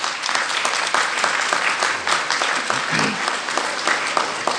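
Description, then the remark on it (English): A crowd applauds steadily, many hands clapping at once in a dense, continuous wash of sound that holds a fairly even loudness for several seconds. “So y'all are clapping for that. Y'all are clapping for us.”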